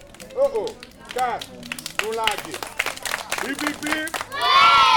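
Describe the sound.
Children clap in quick, uneven bursts while high-pitched young voices call out over them, swelling at the end into a louder, denser round of applause and cheering.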